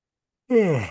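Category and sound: human body sound, yawning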